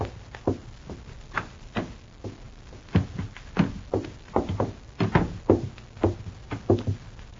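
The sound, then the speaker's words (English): The butt end of a fire axe strikes a metal filing cabinet's second drawer as near to the lock as possible, again and again, about fifteen sharp, heavy blows in an uneven rhythm, each a hard clanking thud, until the lock springs. No one speaks. “Hit it with the butt end as near to the lock as you can.”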